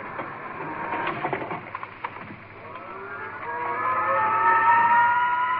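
An express elevator going up to an observation roof: a clattering mechanical rattle with scattered clicks gives way to a humming motor whine that slowly climbs in pitch and grows louder. No voices.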